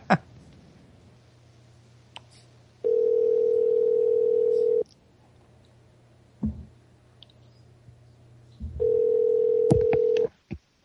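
A telephone line with two loud, steady two-second tones separated by a pause, over a faint background hum with scattered clicks as a call to a guest of the New American Dream Radio Show is dialed. No one speaks.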